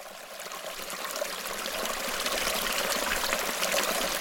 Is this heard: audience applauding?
no